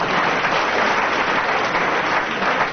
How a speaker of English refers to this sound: For which he earns an enormous round of applause, bordering on an ovation.